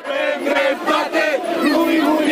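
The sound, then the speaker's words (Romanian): A loud crowd of protesters in front of the Senate, on Calea 13 Septembrie after nightfall, chants in unison, voices rising and falling in rhythmic shouted phrases with a steady, forceful cadence and no pauses. “Încă de la ora 18, protestatarii au ocupat zona din fața Senatului.”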